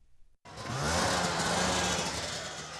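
After a brief quiet moment, the engines of a research team's snowmobiles, lined up at the edge of the sea on top of McMurdo Sound on Antarctica's coast, suddenly roar to life and keep running loud and steady, a rough, buzzy drone with a low hum that edges slightly upward in pitch.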